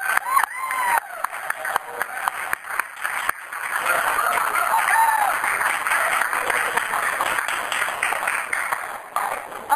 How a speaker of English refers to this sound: And if we just really cheer and shout, she won't be chicken at all.